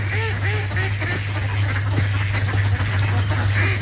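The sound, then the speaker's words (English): A mallard hen duck call gives a quick run of several raspy quacks, then pauses before one more quack near the end, all over a steady low hum with no talking. “So if you've never been duck hunting, the most commonly used duck call for duck hunting is going to be the mallard hen call.”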